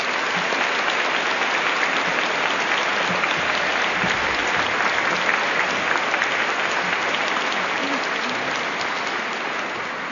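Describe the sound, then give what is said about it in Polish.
Steady, dense applause from a large audience, many hands clapping continuously at a fairly loud, even level for the full duration, with no voices standing out. “Ja tylko dodam, że orkiestra jeszcze głośniej i piękniej gra, jak myśmy klaskali.”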